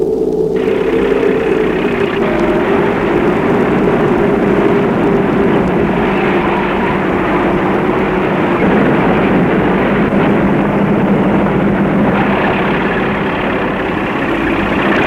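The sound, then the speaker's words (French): A heavy truck engine starts up almost immediately as the truck sets off, keeping up a loud, steady rumble for the whole stretch, with no voices. “Il monte dans le camion et le camion se met en route.”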